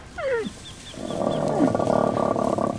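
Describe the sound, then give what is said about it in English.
Camels in a pen make a sharp falling bleat, then a long, throaty gurgling groan that rumbles on steadily, with faint higher chirps in the background. “Now the camels stand in their pen.”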